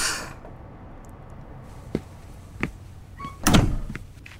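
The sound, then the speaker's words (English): A door opens with a few short clicks and knocks of the latch and handle, ending in a louder thud as it swings, with no voices. “Come on, open up.”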